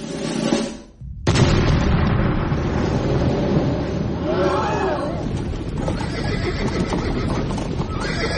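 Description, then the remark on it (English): A sudden loud boom of a circus cannon being fired, followed by a dense rumble of stampeding ponies' hooves in a performing ponies stable and chaotic commotion, with a horse whinnying shrilly midway through the din. “Oh dear, they seem to have landed in the performing ponies stable where they have been caught up the hooves of stampeding beasts.”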